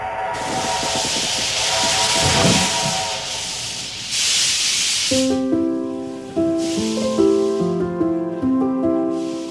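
A loud hiss of escaping steam from the train of the Ombelico del Mondo fills the first few seconds, then the train whistle sounds a series of shifting, stepped tones while softer hissing continues underneath.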